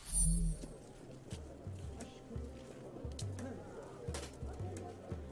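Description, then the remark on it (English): Bustling marketplace ambience: a steady murmur of many indistinct voices, with scattered clattering and clip-clop sounds and the occasional bird call, holding at a fairly even moderate level throughout. “The marketplace.”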